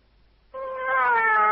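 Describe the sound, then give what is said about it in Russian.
A single drawn-out meow, imitated by a 35-year-old man, begins after a short silence and holds steady and fairly loud to the end, with a slightly rising, nasal tone. “Мяу. Ну вам же 35 лет, вам не стыдно?”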